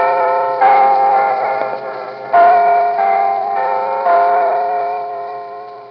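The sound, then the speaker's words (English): Big Ben in London chiming in a recording from July 16, 1890: three deep, resonant bell strokes about two seconds apart, each ringing out and slowly fading, with a muffled, narrow old-cylinder sound and steady hiss. “But in terms of sounds from the environment, there's a recording from 1890 of the chiming of Big Ben in London.”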